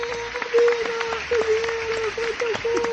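A brief round of applause: scattered, irregular hand claps at moderate loudness over a steady low hum, lasting a few seconds with no speech.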